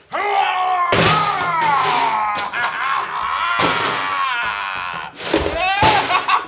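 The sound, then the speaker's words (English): Delicate, intricate and expensive scientific equipment topples and smashes in a few loud, crashing bursts, each a sharp clatter of breaking objects, while strained groaning and shouting voices carry on throughout. “He smashed it into 1,000 shattered fragments”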